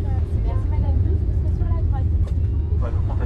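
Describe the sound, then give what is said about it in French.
A loud, steady low roar of an airplane that has just taken off, heard from inside the cabin in the plane's galley where meals are prepared, with faint voices murmuring beneath the constant engine rumble. “Alors je vous dis, là on vient de décoller, là c'est on est dans le calais, dans le calais de l'avion, c'est là qu'on prépare les repas notamment, sur la petite voiture.”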